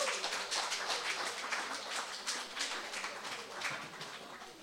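Steady audience applause at a bard song concert, welcoming a performer from the town of Serebryansk on stage, a dense wash of many hands clapping at a fairly even level for several seconds, with no voices over it.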